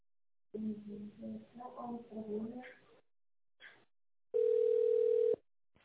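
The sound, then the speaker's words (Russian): A voice greets callers to the company RobotBaza, then after a short pause a steady, loud telephone ringback tone sounds once for about a second as the call is put through to the company's managers. “Звонок уже идет нашим менеджерам. Ожидайте, пожалуйста.”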